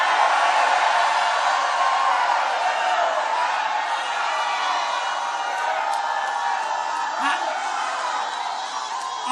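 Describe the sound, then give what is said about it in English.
A church audience shouts together in a sustained, loud roar of many overlapping voices, with whoops and cries rising out of the dense crowd noise for the whole stretch. “Somebody shout a little bit.”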